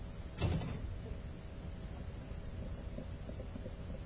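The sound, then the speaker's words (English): A single dull thump as people try to get in through a church door, then only a steady low background rumble remains with no voices. “There's some folks trying to get in that door.”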